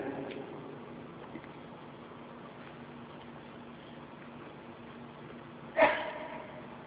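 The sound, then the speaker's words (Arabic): A single sharp sneeze bursts out near the end over a low, steady background hum, loud and abrupt with a brief noisy tail. “رحمك الله.”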